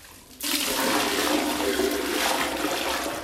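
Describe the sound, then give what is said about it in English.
A woman pours used bathwater from a bucket into a toilet bowl in Harare, Zimbabwe, where the city water supply has not worked for a month; a loud rushing gush starts abruptly and churns steadily to the end, sounding much like a flush. No one speaks. “uses a bucket to transfer water she used to bathe from her tub to her toilet.”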